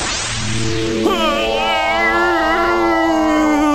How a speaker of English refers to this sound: Pardon the yawn. I'm just getting a little tired from all this interrogation.